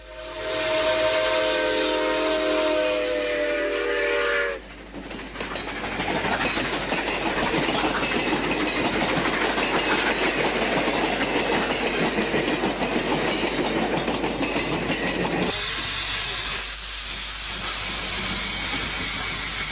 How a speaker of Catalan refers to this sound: Ara escoltarem el tren en marxa, escoltant el so de les rodes.